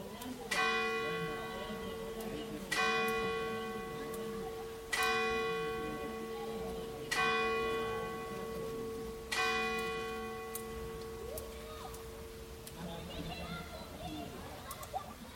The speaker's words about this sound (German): Wir hören jetzt einfach noch diese Kinderstimmen an und die Kirchenglocken.